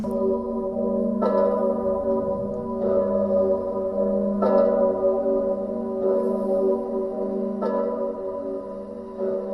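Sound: church bell ringing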